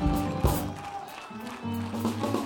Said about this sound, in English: And if you really believe that, go ahead and give God a hand clap of praise in the house tonight.